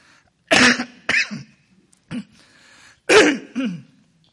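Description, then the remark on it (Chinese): A person with a cough that has not yet cleared up coughs and clears their throat in a series of short, harsh bursts, about five in all, with a pause in the middle; fairly loud, no talking. “对不起啊，因为我的咳嗽还没好。”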